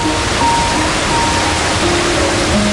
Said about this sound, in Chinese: 会看到远方的瀑布